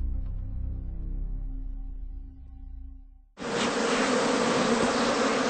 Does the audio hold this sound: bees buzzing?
yes